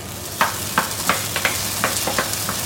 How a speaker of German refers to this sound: Hähnchenfleisch brutzelt in der kleinen Küche des Hotels für den asiatischen Mango-Chicken-Salat